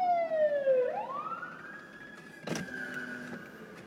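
A police siren sweeps down and then climbs back into a long, loud wail, with a brief harsh blast partway through, amid steady street traffic noise.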